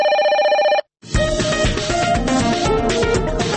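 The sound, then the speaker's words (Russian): A loud, bright telephone ring sounds for under a second, then after a brief pause a dense, busy musical jingle plays to the end, with no one speaking, introducing a radio segment for listener phone calls. “Звонки на свободу. Вольный микрофон для наших слухачев.”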